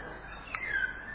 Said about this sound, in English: So, there they go again. So this is a four-party ride, even with something so beautiful like the birds chanting.